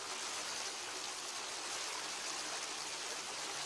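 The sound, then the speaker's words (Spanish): A river flows steadily, a continuous hissing rush of water with no pauses or changes in level, and no voices. “Ellos estaban junto a la orilla del río.”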